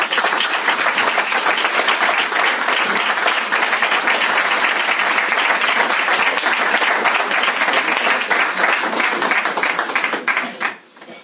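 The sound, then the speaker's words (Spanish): Sustained audience applause at a talk, requested for guests who had travelled there, a dense crackle of many hands clapping at steady loudness for about ten seconds before quickly dying away. “Y nosotros nunca aplaudimos en las charlas, pero yo sí quería eso, pues para mostraros el calor que tal, pues quería pedir un aplauso para ellos que vinieron desde allí.”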